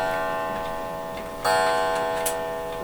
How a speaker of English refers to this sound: Hey, this is a great time for the clock to chime 12.